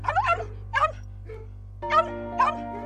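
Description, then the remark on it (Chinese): A small Maltese dog named Qiuqiu barks, five short high-pitched yaps in two loose groups with a pause between, over a steady low background hum. “后来我就选择了小型狗马尔济斯，这是球球啦，它个性温驯又喜欢撒娇，对不对啊，球球？”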